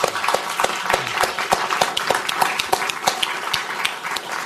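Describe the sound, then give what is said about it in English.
An audience applauds a panel group at the end of their discussion, many hands clapping steadily in a dense, continuous patter with sharp individual claps standing out, sustained at an even level throughout without speech. “So let's give this group a big round of applause.”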